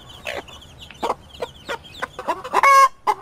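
A hen cackles loudly after laying an egg, a run of sharp, rhythmic clucks building to a drawn-out, squawking call near the end, with no talking.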